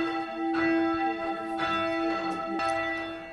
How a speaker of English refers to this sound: What I do is just swing the bell. And each swing, it goes a little bit higher. And then you can hear the other side of the bell ringing. And it'll gradually slow down.